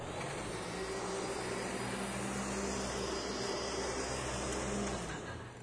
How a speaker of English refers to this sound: Now, let's do something even more fun. How many times have you guys seen a pastor vacuum this church? You're like, not enough.